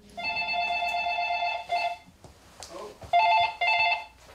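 A telephone rings with a loud, close electronic trill: one long ring, a brief pause with faint background noise, then a pair of shorter rings.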